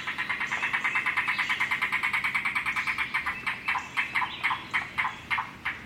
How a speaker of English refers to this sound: But in the undeveloped stretches of the Midwest, watch for the slinky, slender form of the cuckoo, and listen hard for the evocative voice of the rain crow.